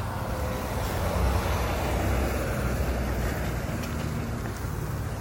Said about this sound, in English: Wonder what that's doing. It's a big truck on a small road. Wonder if someone's like doing moving or something.